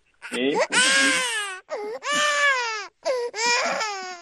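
A small child cries loudly in three long, wavering wails separated by brief gasping pauses, distressed, with no other voices heard.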